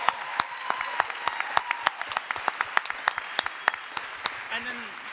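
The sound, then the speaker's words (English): A crowd claps steadily for several seconds, many sharp overlapping hand claps forming a dense, lively patter with a few louder individual claps standing out. “Stand up. We will clap for you.”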